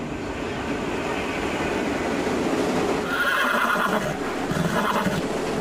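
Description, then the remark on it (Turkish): A racehorse that escaped from its stable whinnies loudly amid the steady rumble and hiss of a train station, with a faint clatter that could be its hooves as it runs on the platform while passengers wait and a train pulls in; no one speaks. “Ahırdan firar eden yarış atı istasyona girdi.”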